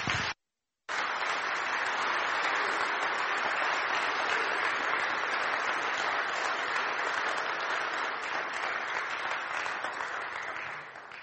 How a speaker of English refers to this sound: So, without further ado, I'd like to give a round of applause for Reverend Jim Lucas.